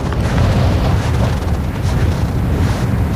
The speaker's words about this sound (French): Voilà. Il y a beaucoup de vent, hein. Il y a beaucoup de vent.